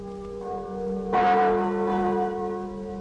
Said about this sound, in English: These are the chimes of Notre Dame, Our Lady of Paris, tolling out across the River Seine, ringing in one of the merriest Christmases.